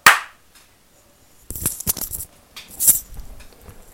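human body sound, hand clap

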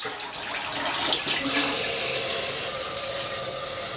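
household object, water pouring

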